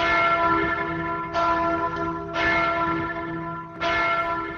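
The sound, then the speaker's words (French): Church bells ring out loudly and steadily, with fresh strikes roughly every second and a half layered over long, humming tonal decay, no voices present. “C'est dans le même but que la quasi-totalité des cloches des églises du pays ont été dérobées, un vol dont on connaît davantage de détails aujourd'hui,”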